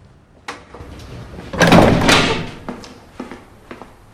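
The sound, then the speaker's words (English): A heavy prison door is opened by a prison guard at the front desk: a sharp clunk, then a loud, rough grinding sweep as it moves, followed by a few scattered metallic knocks and thuds. “a prison guard goes to the door, looks through the peephole, then opens it, letting Bobby's parents in”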